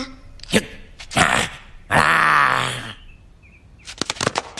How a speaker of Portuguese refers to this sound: Oh, o que é isso? Um cão, acho eu.